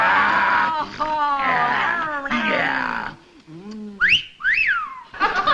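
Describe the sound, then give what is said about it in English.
A couple of quick, rising whistles swoop upward one after another, loud, following a stretch of wavering, sing-song vocal sounds from a voice. “What are you whistling at?”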